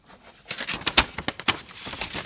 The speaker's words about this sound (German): Eventuell ist noch eine Eulenpost drin. Da mache ich jetzt eine Fanpost auf.